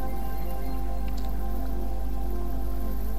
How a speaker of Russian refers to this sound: И ты можешь прислушаться к этим звукам плещущихся волн, птицы, пролетающие